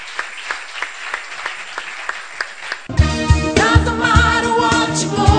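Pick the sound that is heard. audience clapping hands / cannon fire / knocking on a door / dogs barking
audience clapping hands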